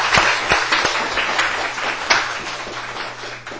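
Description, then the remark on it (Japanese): A church audience gives steady applause to send people off after a prayer: a dense wash of many hands clapping at a moderate, even level with a few sharper individual claps standing out early on. “拍手でお送りしたいと思います。”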